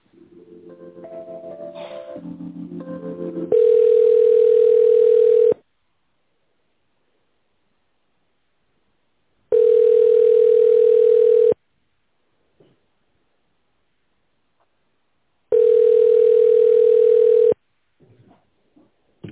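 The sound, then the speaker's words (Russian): After a call to the company RTK, a short run of stepped electronic tones gives way to a phone line's ringing tone while waiting for an operator: three long, steady mid-pitched beeps, each about two seconds, separated by even silent gaps. “Если вы знаете добавочный номер абонента, наберите его в тональном режиме или дождитесь ответа оператора.”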